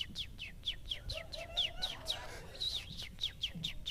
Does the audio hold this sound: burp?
no